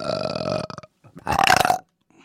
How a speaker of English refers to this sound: Somebody burped, I think.